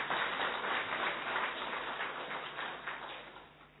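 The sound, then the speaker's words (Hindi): A crowd applauds steadily, dense overlapping claps forming a continuous wash of sound that holds fairly even before easing slightly toward the end. No one speaks over it. “तालियां तो बजाओ जरा।”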